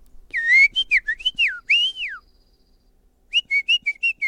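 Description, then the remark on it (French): A person whistles an imitation of a European robin's (rouge-gorge) song: bright, high warbling phrases with rising and falling slides, a short pause, then a quick run of evenly spaced chirping notes. No talking. “Celui-là, c'est le rouge-gorge.”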